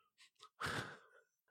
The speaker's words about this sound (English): You were literally snoring into the microphone. Dude, it gets hard. You fell asleep.